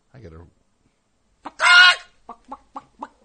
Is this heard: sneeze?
no